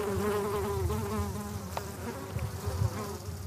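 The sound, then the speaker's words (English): Several bees buzz steadily, going from one purple flower to another in a lavender field with regular rows of plants on a gentle downslope in the Causses; their droning hum wavers in pitch as they move about, with a soft outdoor background and no talking. “Standing in the middle of this field, the bees busily going from one purple flower to another, you'd think you were in Provence.”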